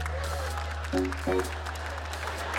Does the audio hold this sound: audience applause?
yes